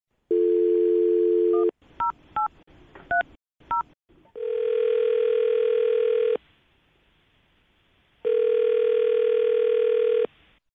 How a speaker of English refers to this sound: All right, I'm going to dial her phone number. Here we go.